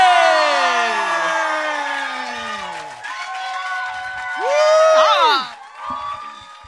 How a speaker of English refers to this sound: Can we get a round of applause